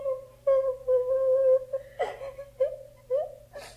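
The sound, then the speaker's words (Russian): A girl of about seven, walking along a road, cries in high whimpering sobs, drawn-out wavering wails broken by sharp shaky breaths, with no other voices present. “Девочка, ты чего плачешь?”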